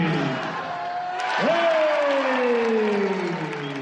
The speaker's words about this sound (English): Hey! Come on, nice round of applause